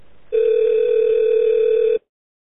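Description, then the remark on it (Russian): A Fontanka telephone ringing as one loud, steady electronic tone that holds for about a second and a half, then cuts off abruptly, with no voices around it. “Я говорю, это телефон Фонтанки.”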